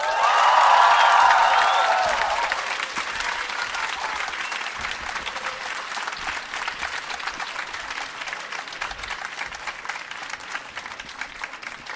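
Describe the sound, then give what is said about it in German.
A large audience applauds and cheers loudly in a big hall as an author is announced at a book event, the roar peaking in the first two seconds, then settling into steady, dense clapping that continues to the end. “Und wenn ich den Namen sage, möchte ich, dass ihr so laut seid, dass man in der ganzen Halle den Namen und das Jubeln verstehen kann.”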